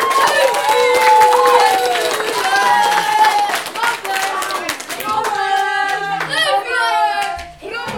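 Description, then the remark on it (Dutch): A group of school children clap and applaud enthusiastically, steady rapid claps mixed with excited high-pitched cheering and chatter, loud throughout. “Nog een applaus, jongens!”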